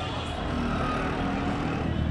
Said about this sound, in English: What passes for normal traffic in Egypt, which means it's chaotic, it's horrible, it's loud, there's taxis and buses